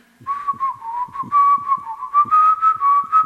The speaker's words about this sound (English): Oh, you nasty, impudent jade, oh, what makes you whistle now? Well, I'd rather whistle for a man than either sheep or cow.